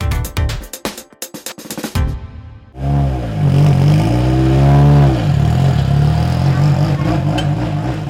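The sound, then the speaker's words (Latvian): Loud rally car engines rev and roar in the heart of the town of Talsi, Latvia, the first two seconds choppy with sharp bursts before a sustained, rising-and-falling engine howl takes over for the rest. “Rūcošu rallija automašīnu skaņas pašā Talsu pilsētas sirdī vairākus gadus bija stabila tradīcija.”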